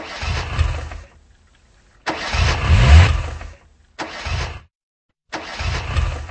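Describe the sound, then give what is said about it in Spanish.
A car engine cranks repeatedly without catching, four separate grinding attempts with short silent pauses between them, fairly loud. “Oye, parece que tienes descargada la batería.”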